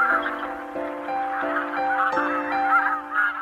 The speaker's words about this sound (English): The geese, whose ultimate destination is up the road from me, have flown throughout Sweden, Denmark and Norway and across the North Sea to our shores.